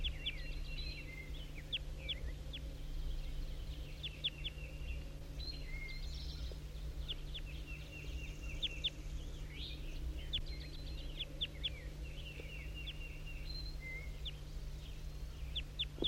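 wild bird calls

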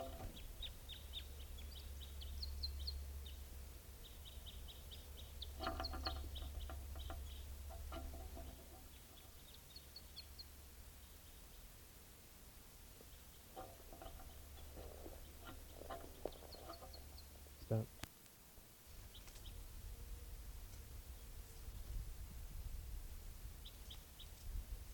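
wild bird calls

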